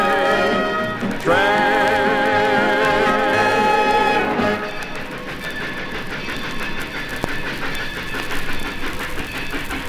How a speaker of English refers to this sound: I have many happy passengers, they never once complain. On a train, train, train.